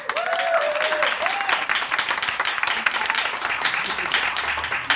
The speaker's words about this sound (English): So pick a favorite with your applause, starting with